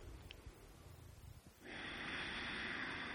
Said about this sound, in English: Breathing up through the earth, through the yoni and womb, to your heart, and back out again. Slow breaths, and you can even make some noise on the way out.